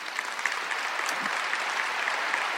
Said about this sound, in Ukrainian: Я би не казав, що тут стоя аплодувати треба, але діло в тому, ви будете аплодувати, коли хтось буде тут виступати від компанії МВ